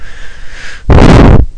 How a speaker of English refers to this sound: Excuse me, sorry, I'm breathing on the mic.